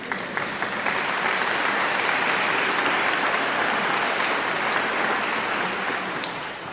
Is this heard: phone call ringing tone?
no